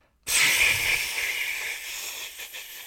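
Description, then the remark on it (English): A voice imitates radio static, as heard when Pidge hails Alcarion in a Voltron story, with a sustained, breathy hiss that starts abruptly and holds steady for nearly three seconds, bright and noisy with a slight wavering toward the end. “Holy crud, you were either blowing your nose or that was an amazing static impression.”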